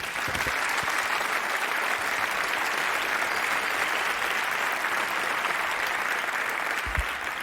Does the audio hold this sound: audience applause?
yes